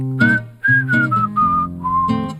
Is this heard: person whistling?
yes